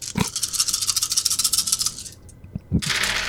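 dice being rolled

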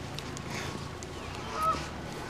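geese honking

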